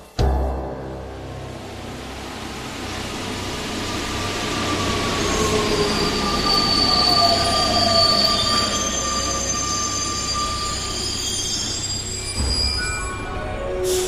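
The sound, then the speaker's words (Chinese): A Line 12 metro train rolls into a metro station with sustained, high-pitched wheel squeals layered over a deep rumble, loud, building and then easing as it slows to a stop. No one speaks. “这在瑞尔州汉地铁站。好了，这是十二线。”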